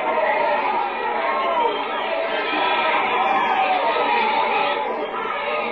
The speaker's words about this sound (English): Meanwhile, the crowd gather.